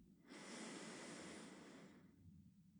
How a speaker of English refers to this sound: And whenever you feel that air hunger, take a very slow and controlled breath in through the nose.